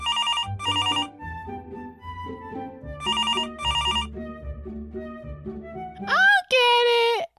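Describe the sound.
A telephone rings in two bright, trilling double bursts a few seconds apart over a soft, low musical backing, and then a voice briefly speaks at the end.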